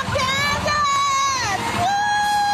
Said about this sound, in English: led cheers outside of the zoo